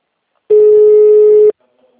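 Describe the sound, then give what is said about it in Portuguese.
A telephone busy signal: one steady, mid-pitched electronic tone sounds loudly for about a second, then cuts off abruptly, followed by near silence. “Era só o telefone.”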